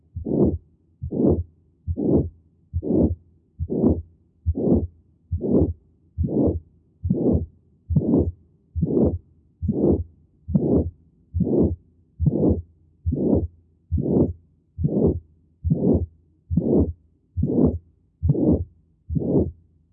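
A harsh heart murmur, peaking in systole, swells with each beat in a steady rhythm of about one per second, loud and repeated some twenty times with no talking.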